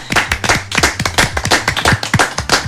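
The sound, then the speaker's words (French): A small group claps together, a dense patter of sharp hand claps that keeps up steadily throughout with no voices over it, applauding two volunteers who are finishing their civic service (service civique) volunteering. “Auditeurs, auditrices, officiellement, je vous demande d'applaudir”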